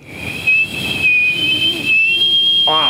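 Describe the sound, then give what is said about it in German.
A loud, piercing whistle made through the teeth and lips together holds one shrill high pitch for about three seconds, wavering slightly, with no talking. “Du hast gleichzeitig durch die Zähne und die Lippen gepfiffen.”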